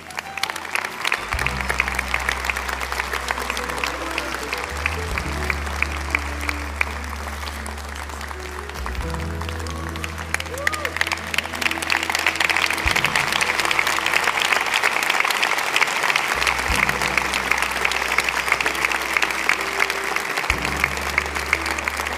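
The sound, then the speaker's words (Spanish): An audience applauds steadily for over twenty seconds, the dense clapping swelling louder midway, while sustained low organ or keyboard chords play underneath. “Deles ese aplauso.”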